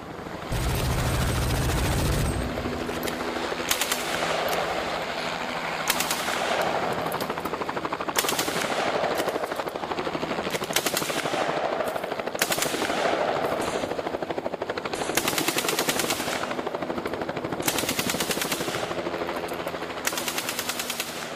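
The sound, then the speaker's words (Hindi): Loud, continuous roar of two military Mi helicopters carrying 50 soldiers toward Jaffna at 1 a.m., flying at only 200 metres with all lights off; a steady heavy thrum with repeated sharp, crackling bursts cutting through at regular intervals. No one speaks. “उड़ान भरने से पहले हुई सभा में कमांडोज ने अपना युद्ध नारा दुर्गे भवानी की जय लगाया और रात 1 बजे 2 MI हेलीकॉप्टरों ने 50 सैनिकों के साथ जाफना के लिए उड़ान भरी।”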